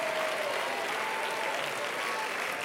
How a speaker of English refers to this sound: If you're thankful for the presence of God, you need to clap your hands.